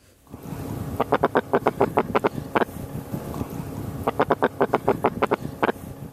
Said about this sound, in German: Das Geräusch stammt von einem Fisch, nämlich dem Knurrhahn. Der kann nicht nur knurren und bellen, sondern auch mit seinen Füßen schmecken.